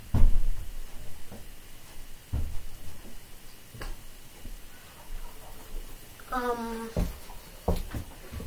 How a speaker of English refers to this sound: This door will not shut.